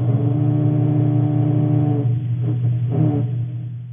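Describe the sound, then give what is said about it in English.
A grey snapper larva's growl: a loud, low, buzzing drone rich in harmonics, held steadily for about two seconds, then breaking into a few rougher pulses before fading. “And this is a growl.”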